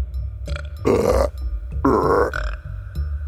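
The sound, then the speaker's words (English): A woman lets out two loud, drawn-out burps, each lasting about half a second, one after another with a brief pause between them over a low background rumble, as a finger is held over a fertility point between her ribs. “All of a sudden, she starts burping.”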